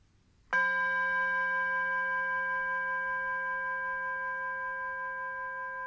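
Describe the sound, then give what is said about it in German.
A singing bowl, used as a gong to begin a meditation, is struck once and rings out with a long, steady, shimmering tone that sustains and slowly fades, heard alone with no voices. “Mit dem Gong, dieser Klangschale, beginnen wir nun die Meditation.”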